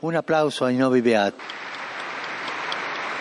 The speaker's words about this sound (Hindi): तब संत पापा ने ताली बजाकर उन्हें सम्मानित किया।